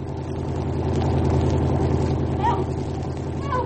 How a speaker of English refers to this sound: Here comes the car now. Help!